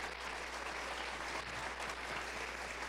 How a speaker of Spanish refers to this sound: Todos juntos, 1, 2, 3. Dele un aplauso al Señor en esta mañana.